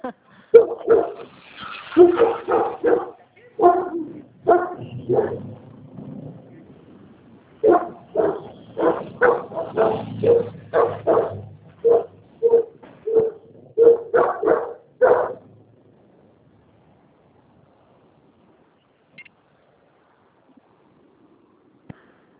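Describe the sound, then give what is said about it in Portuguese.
Several dogs bark loudly in rapid, overlapping bursts for about fifteen seconds, with a few whimpers mixed in, then everything falls quiet. “Gente, cachorrada.”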